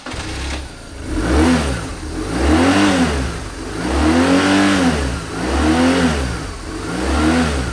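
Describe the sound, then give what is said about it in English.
A motorcycle engine revs up and down in repeated surges, roughly four or five throttle blips in a steady rhythm, loud with no talking. “And then there are motorcycles.”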